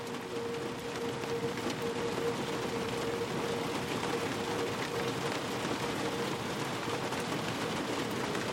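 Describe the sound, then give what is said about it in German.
Steady rain patters on a glass roof, a dense continuous hiss of drops with a faint low hum underneath, even and unbroken throughout with no voices. “Wie die Geräusche des Regens und die Wärme um dich herum sich sanft mit deinen Träumen verbinden.”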